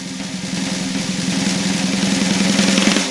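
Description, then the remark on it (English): A sustained, rapid drum roll of fast, even strokes lasting about three seconds, fairly loud, swelling slightly before cutting off. No voices. “Drum roll.”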